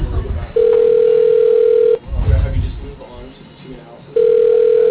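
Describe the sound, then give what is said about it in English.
Ringback tone of an outgoing phone call: two long, steady, mid-pitched rings separated by a pause of about two seconds, with muffled low rumbling noise in the gap. “This guy never answers the phone.”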